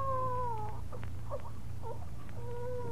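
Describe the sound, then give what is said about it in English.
A newborn baby girl cries in long, thin wails that rise and fall, broken midway by a few short choked sobs, over a steady low hum, in a scene from Stagecoach. “No, that wasn't no coyote. Why, it's a baby.”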